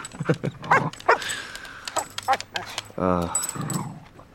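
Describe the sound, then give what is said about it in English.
An excited female dog named Josie greets someone with eager whines, snuffling breaths and jingling collar tags, while a person talks to her warmly over the commotion. “Who's a good girl, Joseph? Oh, girl, what a good dog.”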